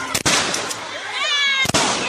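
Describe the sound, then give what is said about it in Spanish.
Two quick pairs of loud, sharp rubber-bullet shotgun blasts crack out, one pair at the start and one near the end, with chaotic shouting and a rising wail filling the gap. “Por proteger a mi hijo recibí 17 perdigonazos de bala de goma.”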